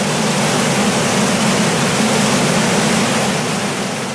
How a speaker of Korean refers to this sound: 자, 탐사대는 옐로우스톤 강, 머라이어스 강을 지나서 6월 13일에 미조리 강을 가르는 대폭포에 이르렀습니다. 일행은 장엄한 자연의 모습에 입을 다물 수가 없었습니다.